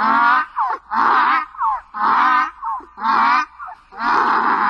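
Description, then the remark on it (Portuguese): A donkey brays loudly, a repeated rhythmic hee-haw with harsh drawn-out honks alternating with short rising wheezes, about five cycles with no talking. “Começou a relinchar.”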